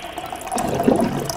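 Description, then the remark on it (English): Water pours into a cup in a short, steady trickle that swells slightly in the middle of the fill, with no one talking. “Let's fill up our cups”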